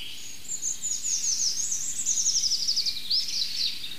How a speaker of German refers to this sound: Ach, schön zartes Rotkehlchen im Hintergrund.